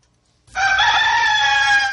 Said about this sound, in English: All righty, that was a white rooster for sale